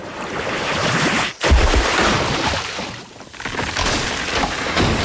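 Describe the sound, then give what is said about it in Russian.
A water ball spell being cast: a loud, steady rush of surging water fills the whole clip, broken by a sudden splashing burst early on, then a brief dip before the torrent roars back. No voices. “Призывая свежий журчащий поток воды здесь и сейчас. Водяной шар!”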